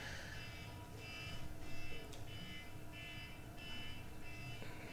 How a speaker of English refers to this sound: I'm trying to just decide right now what I'm going to do about that buzzer. There we go.